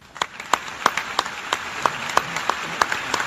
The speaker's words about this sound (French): a officiellement un nouveau secrétaire général en la personne du Portugais Antonio Guterres, ovationné par l'Assemblée générale jeudi, l'Assemblée générale et ses États membres, à New York jeudi